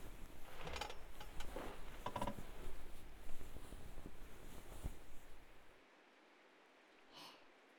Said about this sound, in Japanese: 今日は雨の音が気持ちいいから、シンプルなマッサージが気持ちいいかも。